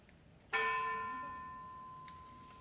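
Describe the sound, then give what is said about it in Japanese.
A single church bell is struck once by a young representative of the youth, its bright metallic tone ringing out clearly and sustaining as a long, slowly fading hum with shimmering overtones. No one speaks. “愛するものを失ったすべての人の上に主の慰めと平安があるように祈りつつ鐘をつきます。”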